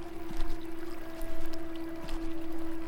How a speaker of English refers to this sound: Release it and let it flow down the brook.